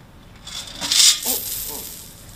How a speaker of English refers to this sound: I think I lost some more coins.